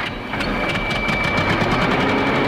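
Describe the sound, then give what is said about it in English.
A tractor engine runs steadily as it is brought in to drag something out with chains, a continuous rumbling drone with rapid mechanical knocking and a faint high whine throughout, no voices. “Go ahead, bring in the tractor, if you would, and we'll go ahead and throw some chains around this puppy and drag it out.”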